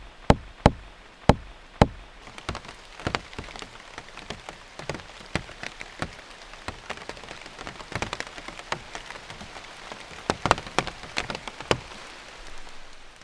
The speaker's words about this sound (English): if you hear the little tapping sounds, we're hearing the large raindrops coming from the overstory onto the plants below